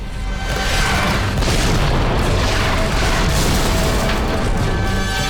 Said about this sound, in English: The armies square up to each other and the heavy cannons roar.